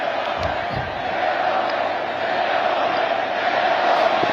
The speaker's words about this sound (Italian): Leone, Leone, ha gridato la folla,